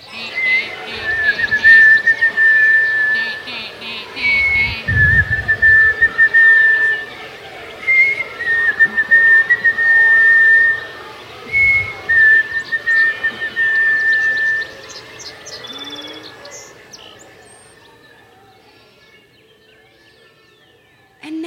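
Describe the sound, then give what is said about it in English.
Several people whistle imitations of a dawn chorus of birds, such as a nuthatch and a sparrow, all at once, overlapping trills, chirps and sustained tones filling about fifteen seconds, then the chorus thins out and fades to near quiet. “On the count of three, be your bird.”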